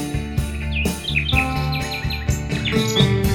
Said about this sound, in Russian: Заводит песню звонкую влюбленный соловей своей любимой пташечке. Он посвящает трель.